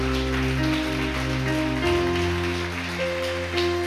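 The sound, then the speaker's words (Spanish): An audience gives a loud round of applause to God, a dense crackle of many clapping hands lasting throughout, over sustained keyboard chords that shift partway through. “puede darle un fuerte aplauso a nuestro Dios?”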